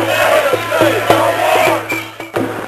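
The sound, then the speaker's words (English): A street protest crowd marching down the street with a banner chants together in a loud, steady roar, punctuated by rhythmic group clapping at a regular beat, with many voices blending into a sustained drone. “chanting, a lot of people clapping as they walk down the street.”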